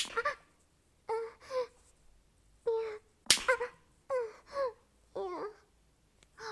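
slap on skin

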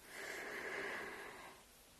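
dog snoring

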